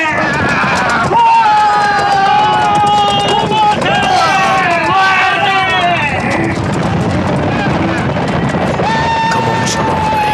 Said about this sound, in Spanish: Los centenares de guerreros se lanzan a todo galope, gritando como fieras enloquecidas. El estruendo de los caballos avanzando a todo galope por la colina hacen retumbar la tierra.